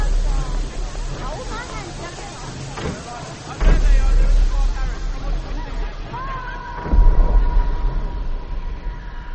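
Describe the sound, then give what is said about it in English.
A train rumbles steadily along the rails with a continuous low roar, surging louder twice as carriages clatter past, then a long metallic squeal rings out over faint crowd murmur. “That's the end of the train.”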